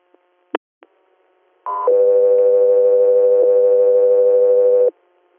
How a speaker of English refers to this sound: Hotel 3 Air, stand by for tones.